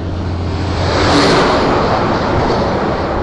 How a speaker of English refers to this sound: That was a road train, just went past.